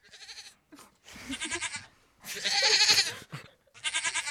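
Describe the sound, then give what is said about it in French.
Goats bleat in several loud, quavering bursts, one call after another with short gaps between them and no one speaking. “Oui, toi, petit auditeur voyeur, qui ne pouvait plus te contenter d'entendre, excité par toutes ces voix de femmes, d'hommes, et parfois même de chèvres, la preuve ?”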